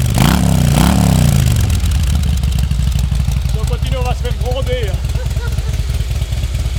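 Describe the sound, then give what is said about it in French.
A Harley-Davidson motorcycle engine revs up twice in quick succession, then settles into a loud, rumbling idle while a man talks over it. “Vous pouvez faire tourner le moteur puisqu'on est là pour la radio.”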